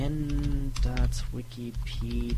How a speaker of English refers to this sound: Okay, mouse click. Let's see.